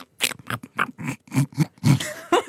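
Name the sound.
imitated wild boar grunting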